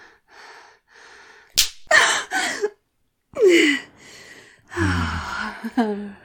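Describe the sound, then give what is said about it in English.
A single sharp, loud whip crack on the thighs, followed by a string of gasps and pained, whimpering cries, with short breathy sounds in between. “I'm going to whip your thighs.”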